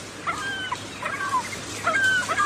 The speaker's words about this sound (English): And a scrub fowl just came and joined me, making that sound. They're like little chicken-like things that wake me up at 4 o'clock in the morning and shit all over my tent.